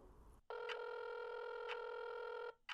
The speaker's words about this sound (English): I dial my phone, putting the phone on speaker so I can keep cleaning.